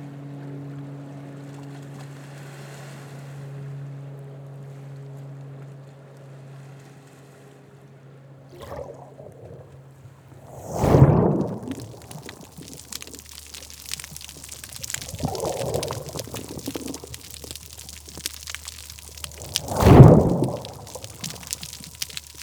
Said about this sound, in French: De grosses vagues rapides, gros bruit de vagues rapides.